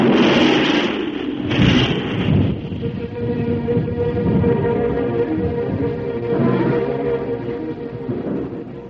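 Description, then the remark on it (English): Rolling thunder during a storm over a dark open plain: two loud, sharp bursts open, then a deep, continuous rumble rolls on, heavy. No voices are heard. “Thunder roared over the black plain, and long slivers of fire snapped against the wet earth.”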